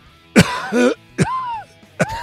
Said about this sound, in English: give us your best … cough and go.